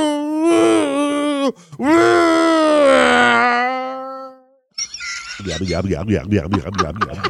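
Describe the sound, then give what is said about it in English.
Someone vocally imitates a car going back into a driveway: two drawn-out, wavering moans, then a steady, low, rhythmic pulsing like an engine idling, loud and with no other speech. “The car goes back into the driveway. Do the idling sound again.”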